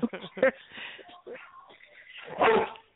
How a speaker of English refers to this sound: Oh, I'm gonna move my phone because the dog's barking there.